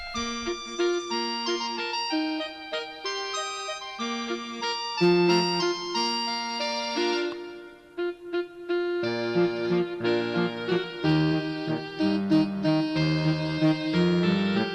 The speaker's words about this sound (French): Petite musique qui vous annonce le patois